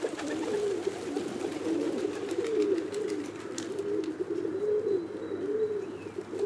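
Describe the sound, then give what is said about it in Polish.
A feral pigeon coos loudly and continuously, its deep throaty warbling rising and falling in a steady rolling rhythm, with faint chirps and light background noise behind it. “Niestety głównie chyba z odchodami i karmieniem na różnych placach czy przystankach oraz nie wszystkim miłym, donośnym gruchaniem.”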